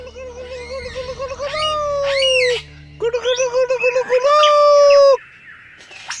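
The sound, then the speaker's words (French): A superb lyrebird sings loud in the shade of eucalyptus trees, running through two long bursts of varied, ringing calls with rising and falling whistles, mimicking other birds, with a short pause between phrases. “Un magnifique oiseau lyre, aussi appelé ménure superbe.”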